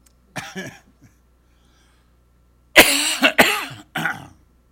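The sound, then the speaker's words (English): A person coughs, first a short wet cough with a throaty tail, then after a pause a loud burst of three harsh coughs in quick succession. “your cough gets worse”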